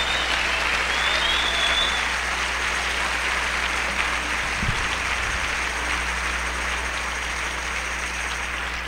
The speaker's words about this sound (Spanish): Dale un aplauso a Dios fuerte.